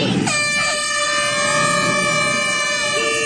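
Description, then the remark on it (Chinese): A loud air horn blares abruptly and holds one long, steady, brassy note for about three seconds, dominant over faint background bustle, signaling the start of the 2024 Around East Lake National Day cycling event in Wuhan, Hubei, China. “伴随着一声鸣笛，湖北武汉2024环东湖国庆大骑行活动今天正式拉开帷幕。”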